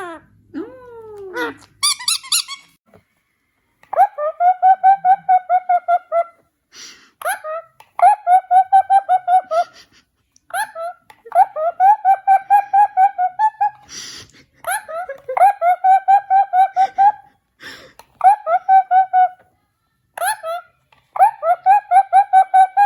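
A pet bird named Vasya chirps in repeated bursts of rapid, squeaky trilling notes, each run lasting a second or two with short pauses between, loud and clear throughout.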